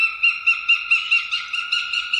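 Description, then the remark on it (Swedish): A northern goshawk calls from a treetop in a deep forest, a rapid, evenly spaced cackling series of about ten harsh, nasal notes, fairly loud and clear with no other sounds around it. “Nu är vi inne i en djup skog och från en trädkrona hör vi en duvhök.”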